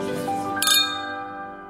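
glasses clinking

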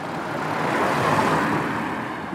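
car traffic

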